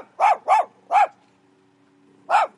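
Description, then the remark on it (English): Shih Tzus at a house on the Emory River barking in sharp, high yappy bursts as a tall man in a double respirator mask walks up: three quick barks, a short pause, then another bark with a fifth just starting. Loud and clear, with no talking. “When Landon walks up to Diana Anderson's house on the Emory River, her Shih Tzus go nuts.”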